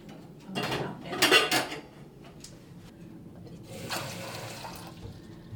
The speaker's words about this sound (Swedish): Då ska jag då börja med att ta fram en kastrull.